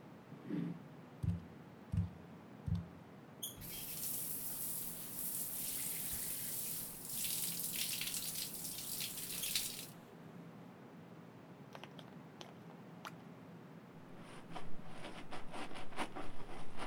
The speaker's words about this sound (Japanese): このままシャンプーも済ませて一気にパーって流しちゃおっか。髪の毛洗っていくから目つむってて。